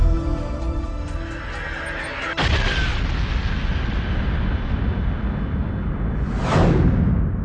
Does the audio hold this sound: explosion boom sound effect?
yes